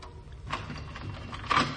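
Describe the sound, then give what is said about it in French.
A door is opened in the dark with two short mechanical bursts, a scrape and then a sharper clunk about a second later. It sounds quiet, with no one speaking. “Mais pourquoi est-ce que vous ouvrez la porte dans le noir?”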